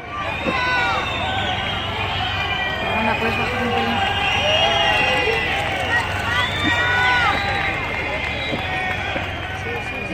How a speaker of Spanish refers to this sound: Escuchamos los abucheos y los insultos al presidente del gobierno.